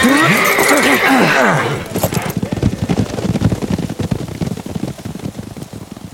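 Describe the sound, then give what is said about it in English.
A horse lets out a loud, wavering whinny as four outlaws in a little town reach their horses and mount on the run, then a rapid clatter of hooves pounds, a dense stream of sharp clops that continues to the end. “The four outlaws, reaching their horses, snatched the reins and mounted on the run.”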